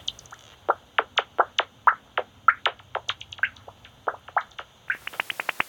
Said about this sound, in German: Abendsegler, jagend, immer wieder mit finalen Jagdrufen, sogenannten Final Buzzes.